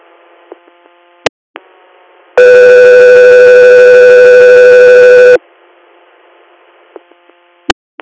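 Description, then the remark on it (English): A loud, steady electronic paging tone sounds from a radio for about three seconds, set against faint static hum, with sharp squelch clicks before and after. “standby for Tones.”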